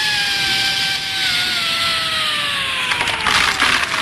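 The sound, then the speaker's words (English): An electric drill grinds steadily through wood, its motor whine slowly dropping in pitch under load, with a rougher, crackling rasp building near the end. Loud and continuous, no voices. “Right, she's gone now. Plug in the drill.”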